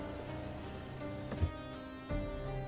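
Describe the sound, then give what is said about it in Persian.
Two sharp knocks on a car window, spaced a little under a second apart, ringing out over a steady, low droning background with no voices. “میزنه به شیشه.”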